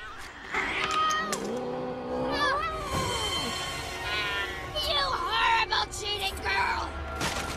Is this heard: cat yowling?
yes